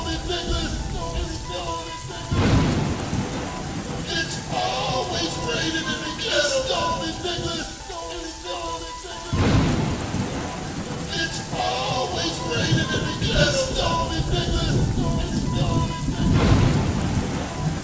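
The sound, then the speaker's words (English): Steady rain hisses throughout while deep thunder booms roll in about three times at regular intervals, with tonal music and a voice-like melody layered over the storm. “It's raining, it's pouring, it's motherfucking storming. It's cloudy, but strong. It's when the thunder claps, it's a warning.”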